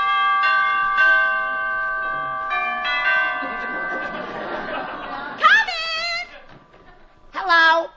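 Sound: doorbell ringing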